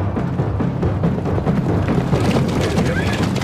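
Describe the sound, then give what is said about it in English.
Several racing horses gallop hard side by side, their hooves pounding in a dense, rapid, continuous rumble that stays loud throughout, with no clear voices. “Now, as they race side by side, Ramon's horse bites down on the harness of Mansoor's mount.”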